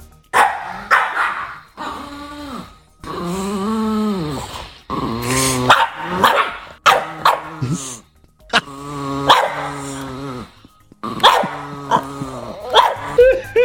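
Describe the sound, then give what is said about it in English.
Two dogs, Winslow barking and Frankie making the otherworldly howl-like growls, bark and growl in a continuous noisy exchange, sharp repeated barks overlapping with long, wavering growls that rise and fall in pitch; loud throughout with brief pauses. “The barking will be Winslow, and the otherworldly sound, the demon from hell sound, yes, will be Frankie.”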